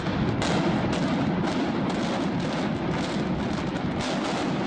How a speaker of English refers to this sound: Shortly after Texas A&M System Chancellor John Sharp finished the countdown came the explosions from 735 pounds of dynamite set off by more than 1,300 blasting caps.